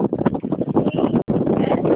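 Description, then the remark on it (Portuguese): During a phone call, loud, steady wind buffets a phone microphone, a rough rumbling roar that surges and dips for about two seconds, cutting out briefly midway before resuming, with no voices heard. “É que tá ventando muito, eu não tô quase ouvindo a senhora.”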